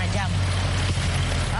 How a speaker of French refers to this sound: Je vois qu'il y a un peu de circulation approchée.